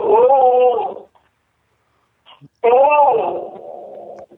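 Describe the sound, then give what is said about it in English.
A female dog whimpers twice, each a drawn-out, high, wavering whine with a short pause between them. The second whimper trails off into a lower, fading moan. “Poor dog.”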